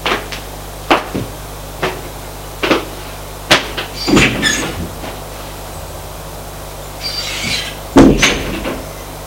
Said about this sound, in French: La porte de l'appartement d'à côté s'est ouverte.